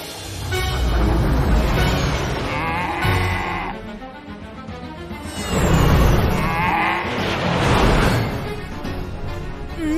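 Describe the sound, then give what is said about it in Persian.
A cow moos twice, each call long and drawn out with a wavering pitch, loud against a steady background of noise. “عجب گاوی، آقای مغز حتما خوشش میاد.”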